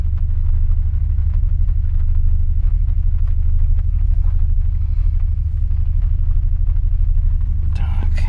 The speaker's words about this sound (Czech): Všechno funguje. To je lahoda slyšet ten motor. Jak si krásně brumlá. Pravidelně. Všecko jede.